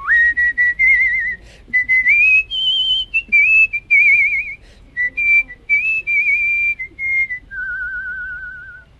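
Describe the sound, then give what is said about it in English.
A single competitor at a whistling convention pucker-whistles a smooth, wavering melody through a tiny opening in pursed lips, the clear tone sliding between sustained notes with vibrato, fairly loud with short breath pauses and no talking. “I am what we call a pucker whistler, so I whistle like what you would expect a whistler to do.”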